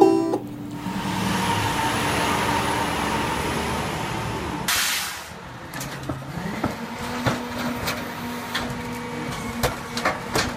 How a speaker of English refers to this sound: Gonna have to take a break because of the trash truck now.